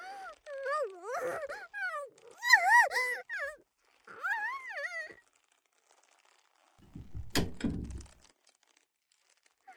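door opening

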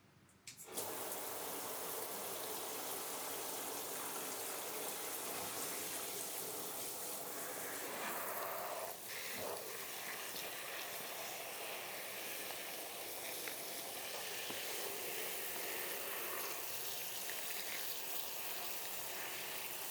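shower water rinsing hair

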